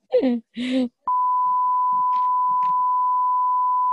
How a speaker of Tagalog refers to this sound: Ay, sorry. Isi-sensor ka na lang. Puro sensor na to.